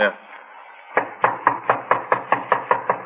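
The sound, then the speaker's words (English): Rapid, steady knocking on the front door of a small redwood house from its porch, in the rain, about a dozen firm raps in quick succession, fairly loud after a brief quiet moment. “Better try it again.”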